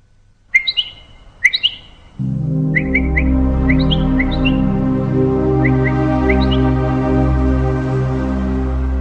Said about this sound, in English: Birds communicate through cries, songs, and body language. They employ a variety of sounds to communicate with other members of the flock, neighbors, or family members.